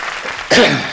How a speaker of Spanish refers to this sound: Un aplauso para este hombre, por favor.